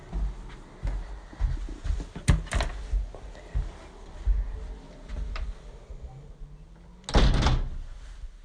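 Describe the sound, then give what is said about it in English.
A door is handled: two sharp clicks or knocks early on, then a louder, longer rattling thud near the end, over a low, rumbling background with no talking. “Oh gosh, it's really hard to tell whether to have the door open or not.”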